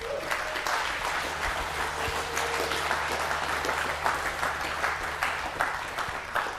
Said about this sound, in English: Thank you very much. I know some of that was pity applause, but I'll skip through my slides.